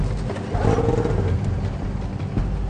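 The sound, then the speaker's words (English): A snowmobile engine sputters and rumbles during a pull-start attempt, with the ignition on, the choke on and no throttle, fairly loud and continuous, with a brief rise in pitch early on; no voices are heard. “Turn the ignition on, put the choke on, and just keep on pulling.”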